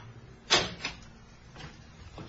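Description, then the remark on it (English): A door in a passageway of a derelict, boarded-up building is pushed open with a sharp knock and a quick second rattle, followed by fainter scraping movements, with no one talking. “Oh, here's a door.”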